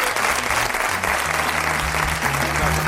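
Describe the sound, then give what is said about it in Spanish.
An audience of the radio show Nadie Sabe Nada claps steadily, a dense, sustained wash of many hands across the whole stretch, fairly loud with no gaps, and a faint low murmur of voices underneath. “Yo creo, perdona, que todo este ejercicio quiere un aplauso.”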